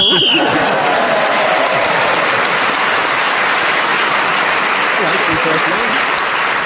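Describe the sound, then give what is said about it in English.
A brief, shrill game show whistle blast ends the round, then loud, steady applause from an audience carries on for several seconds. “In this game, whoever is speaking when the whistle goes gains an extra point.”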